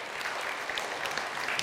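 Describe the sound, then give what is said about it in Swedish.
Steady applause from people at the front after a Bible story is told, a dense patter of many hands clapping at an even level throughout, with no voices standing out. “Ja, jag får till och med en applåd där framme.”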